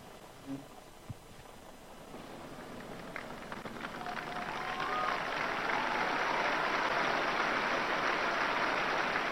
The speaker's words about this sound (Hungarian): A mai napon is a téren jelenlevő zarándokok tapsával ér véget az audiencia, akik ilyen módon köszönik meg Ferenc pápának a tanítását és az áldását, elnézést.